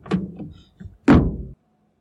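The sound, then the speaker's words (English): A car door unlatches with a click and creak, followed about a second later by a loud, solid slam as it shuts, then silence. No one speaks. “Thanks, but I can open my own door.”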